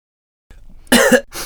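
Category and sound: human body sound, coughing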